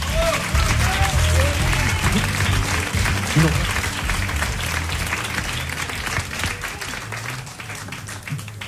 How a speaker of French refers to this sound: Voilà, on les applaudit, s'il vous plaît.